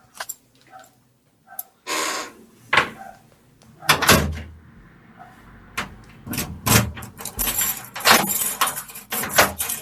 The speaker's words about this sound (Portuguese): Las llaves cuando caen al suelo.